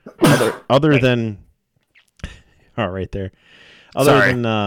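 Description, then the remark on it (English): A loud sneeze bursts out sharply, followed by a second forceful burst a few seconds later, with a man's voice talking in between. “I don't have a sneeze button.”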